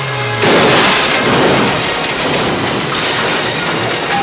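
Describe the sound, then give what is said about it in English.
A brief droning tone cuts off into a loud, sustained crash of crunching metal and shattering glass as a Lotus car smashes through blockades and nosedives into a construction pit, with a second heavy impact and scattering debris a few seconds later as it lands upside down. “Metal and glass fly through the air as the Lotus lands upside down.”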